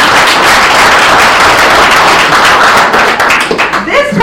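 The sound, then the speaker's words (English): A crowd at a county employee service-award ceremony applauds steadily for an attorney's office employee with 10 years of service, a dense wash of many hands clapping at full loudness for about four seconds, thinning slightly toward the end as a few cheers rise. “Okay, just applaud, please.”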